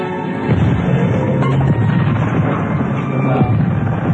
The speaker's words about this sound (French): mon briquet retardement encore. Ça a bien explosé, là.